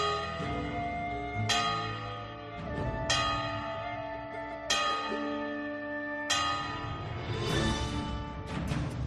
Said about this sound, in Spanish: Del repique de las campanas que anuncian un nuevo día, al majestuoso sonido de la campana de su catedral.